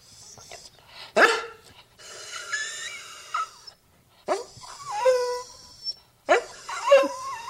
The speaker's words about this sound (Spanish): Ese perro parece que está aspirando, se llega. Ese perro está afónico. Sí, algo le pasa.